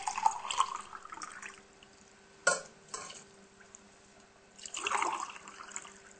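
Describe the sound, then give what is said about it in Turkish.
Two measured glasses of water pour into a cooking pot holding two spoonfuls of starch, in two splashy bursts, with a couple of sharp clinks of a cup or utensil between them; a steady low hum runs underneath and no one speaks. “Nisaçlımızı koyduk tenceremize. Ve iki bardak su ölçüyorum.”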